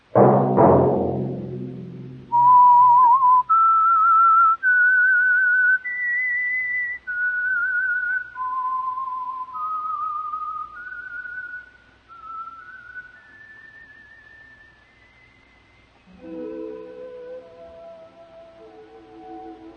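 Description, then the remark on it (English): A clear, solo whistled melody, the theme signal of a weekly radio program, of about a dozen sustained notes rising and falling, moving into a slow, fading ending, then a soft orchestral chord swelling in as it ends. “Let that whistle be your signal for the Signal Oil program, The Whistler, each Monday at this same time.”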